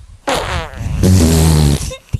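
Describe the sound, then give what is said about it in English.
A voice blows a loud, buzzy raspberry imitating a boy's fart, one long sputtering burst that shifts into a deeper, rumbling tone before cutting off. “What does a boy fart sound like? And show me a boy fart versus a girl fart. Ready? Boy farts first.”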